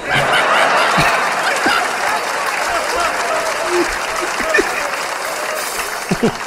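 Sustained applause from a crowd, dense and steady clapping throughout, with some scattered laughter and voices mixed into the noise.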